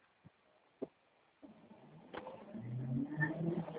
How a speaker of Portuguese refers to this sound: Vindo o carro lá.